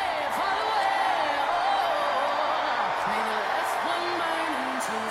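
A dense, roaring convention crowd at the DNC in the United Center cheers continuously for Kamala Harris, with scattered whoops and shouts rising above the steady, echoing wall of noise.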